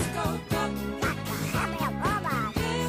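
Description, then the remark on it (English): A steady, bouncy music track with a thumping beat roughly twice a second, topped by a nasal, quacking duck-like voice warbling over the melody. “Oh, the duck part.”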